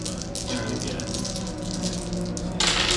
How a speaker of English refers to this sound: You have five dice, and then you're trying to get threes. You're trying to roll threes.